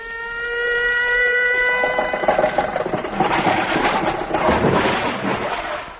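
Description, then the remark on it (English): A police motorcycle engine drones with a steady whine, then turns rough and choppy, coughing and sputtering loudly as it runs out of gas. “The scene then shifts to a motorcycle cop.”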